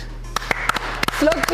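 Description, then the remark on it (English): A slow clap: a run of about seven sharp hand claps at an unhurried, slightly uneven pace, with faint voices and a low steady hum underneath. “Slow clap.”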